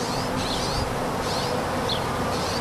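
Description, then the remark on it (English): Honeybees buzz in a steady, continuous drone in an urban farm plot in the Bay Area, over a constant broad background hum, with a few brief, high chirps cutting through now and then. No one speaks. “But the sounds of traffic don't deter the birds and honeybees or urban farmers who plant and tend their seedlings in unpaved corners of the cityscape.”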